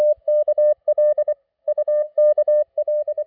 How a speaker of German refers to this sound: Morsezeichen, klar und deutlich, klicken in die Stille.